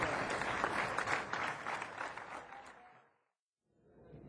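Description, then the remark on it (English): Steady audience applause at a live St. Patrick's Day music performance, after the first half's round of performers, a dense wash of many hands clapping at a fairly loud, even level, fading out around three seconds, then a brief silence before soft clapping starts up again. “Thank you for that smattering of applause going to a live crescendo.”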